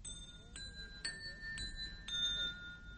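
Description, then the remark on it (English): A series of five bright musical chime notes summoning passengers to dinner aboard a ship leaving San Francisco at dusk, struck at a steady half-second pace, their clear tones ringing on and overlapping over a low background rumble. “And we are summoned to dine by musical chimes.”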